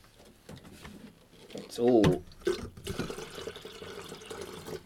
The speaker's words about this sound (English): Anyway, right, I've got to just make this tea and coffee. See if I've got enough water in the kettle. I'll just splash a bit more. Sorry about the noises.